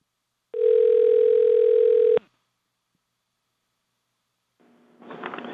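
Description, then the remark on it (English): A loud, steady telephone dial tone from a phone call in progress hums for under two seconds and cuts off abruptly, followed by silence and then a rising burst of noisy, crackly sound at the end. “We got a phone call in progress.”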